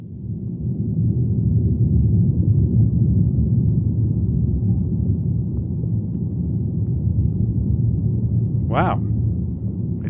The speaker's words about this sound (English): So that's the sound of, the leaves, I think, rattling on the tree in a thunderstorm. A thunderstorm rolled in and it created a lot of wind that then blew the leaves